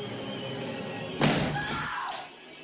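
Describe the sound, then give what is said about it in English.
An axe strikes a wooden door once, from the film The Shining, Jack Nicholson getting ready to chop down a door: a loud, heavy crack that splinters and rumbles briefly before fading, with a dull background hum before and after. “That's from The Shining, Jack Nicholson, getting ready to chop down somebody's door.”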